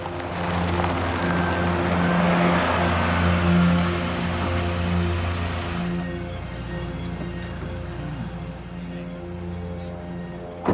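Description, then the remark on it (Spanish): A car pulls into a driveway: its engine hums steadily with a low droning tone and tire rumble, then eases off and settles into a quieter idle as the vehicle stops. “Cuando los oficiales tocaron la puerta, un automóvil se detuvo en la entrada.”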